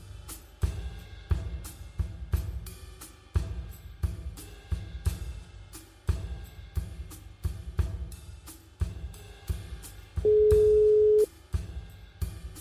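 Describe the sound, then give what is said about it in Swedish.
A single steady telephone ringback tone sounds for about a second near the end, as a call is placed to a business school's rector, over a pulsing, rhythmic background music bed. No one speaks. “Jag söker Handelshögskolans rektor Lars Strannegård flera gånger på telefon”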